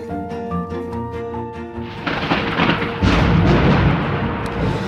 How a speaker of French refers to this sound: Je craque, j'étincelle, j'allume le ciel, j'allume la terre, je suis l'orage.